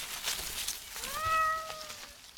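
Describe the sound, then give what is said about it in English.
A single drawn-out meow from Wiggy the cat, out on the lawn, rises and then slowly falls in pitch, heard at moderate volume against faint background hiss and scattered quiet noises. “Where's the kitty? Where's the kitty?”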